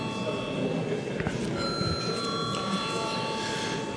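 A parliament chamber's bell rings continuously for several seconds to call a vote on a bill in its second reading, a loud, steady electric clatter with sustained high ringing tones and no pauses.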